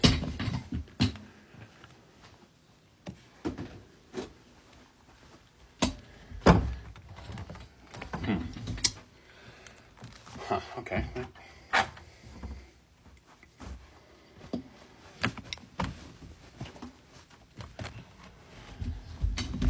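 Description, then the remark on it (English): A chair is rolled across the floor out to the garage with a low, steady rumble, broken by irregular bumps and clunks as it is pushed along. “Let's take this chair and I guess roll it out to the garage.”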